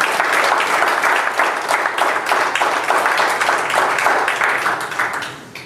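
A crowd applauds steadily for several seconds, a dense, even wash of many hands clapping at full volume that tapers off slightly at the end.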